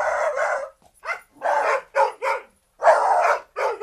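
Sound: dogs barking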